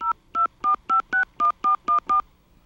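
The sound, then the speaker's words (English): A telephone keypad enters a phone number into an automated phone menu: nine crisp electronic dual-tone beeps in a quick, steady rhythm, each a short buzzy chord, with no talking. “Enter the phone number you are calling about.”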